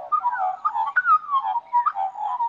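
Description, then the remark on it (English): Birds singing in the bush in a continuous, tuneful stream of warbles and whistled notes, clear, with phrases overlapping as if several birds call at once. No voices. “If you go out in the bush, you can often hear birds having a singing competition.”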